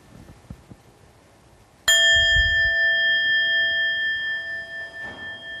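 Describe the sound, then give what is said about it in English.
After a few quiet seconds, a bell is struck once, loud, its bright ringing tone sustaining and slowly fading for several seconds with no one speaking. “Just take the time and listen to the sound of the bell.”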